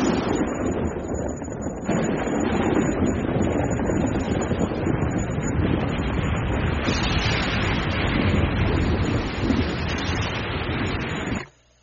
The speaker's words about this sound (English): A monstrous storm broke loose, which forced us to flee and to seek the negotiation ship, a type of primitive submarine, which we finally reached drenched to the skin.